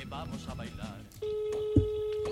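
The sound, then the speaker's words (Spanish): A voice talks briefly, then a steady telephone ringing tone starts and holds as one continuous electronic hum, fairly loud and clear, with faint background noise beneath it, as a call is placed live on air to a guest. “Vamos, ahí suena el teléfono.”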